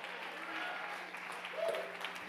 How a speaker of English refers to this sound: If you're going to be a part of this last move of God, put your hands together. Give God a mighty hand clap and a mighty shout.